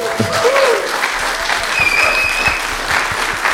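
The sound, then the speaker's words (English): An audience applauds historian Rana Mitter, author of Streams of Gold, Rivers of Blood: a dense, sustained wash of steady clapping with a few brief whistles rising above it, loud throughout. “Well, I want to ask everyone to give a very, very warm round of applause to Rana Mitter.”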